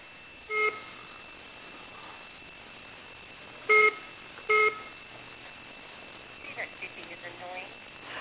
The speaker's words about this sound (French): Le bip n'est pas très amusant, n'est-ce pas? Je pense que personne, qu'il y a quelqu'un qui est en train d'appeler.